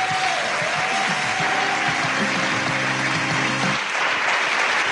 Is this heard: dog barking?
no